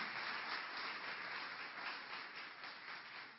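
A church audience applauds for the life of a visiting pastor, a dense, steady wash of many hands clapping together that holds at an even, fairly loud level throughout, with no voices standing out.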